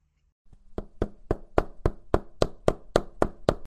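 A hammer strikes repeatedly in a quick, steady rhythm, about ten sharp, fairly loud knocks, with no voices.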